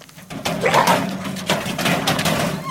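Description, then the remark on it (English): A small dog whimpers with a few short, high yips in a dark forest, over a steady background of rustling and crunching movement as people walk. “if I fall over this dog one more time...”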